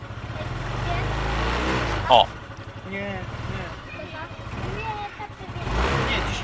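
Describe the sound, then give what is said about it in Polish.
A small scooter engine, just started, runs with a steady low rumble, gently rising and easing as it is warmed up with light throttle, giving off a little smoke, while a man talks over the motor. “Nie możemy od razu dać gazu, dlatego że to się zatrze silnik.”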